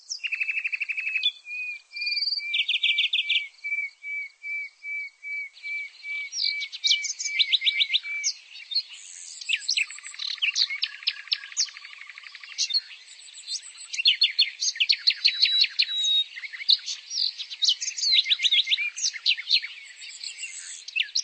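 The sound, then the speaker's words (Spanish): Nightingales sing clearly, opening with a steady run of repeated piping notes, then bursting into rapid trills, chirps and buzzy phrases that continue without pause. “Los pájaros anidaron en los arbustos a lo largo del camino y la princesa pudo gozar de sus trinos.”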